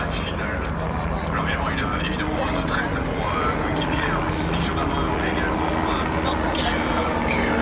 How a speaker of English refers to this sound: As I was saying, you can tell when the cars are coming. The helicopter comes first.